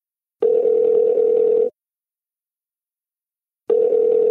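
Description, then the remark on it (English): A telephone dial tone hums steadily for over a second, falls silent for about two seconds, then starts again, a clear, even electronic drone with no voices, as a phone call connects. “We took another step in our friendship and did something which I don't do with many friends now, which is like open up the phone line.”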